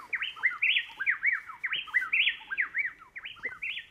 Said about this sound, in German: Das sind 2 Zaunkönige aus Ecuador, Kastanienrückenzaunkönige, und zwar ein Männchen und ein Weibchen. Klingt wie einer. Die wechseln sich so schnell ab im Gesang, dass man normalerweise meint, das ist nur einer.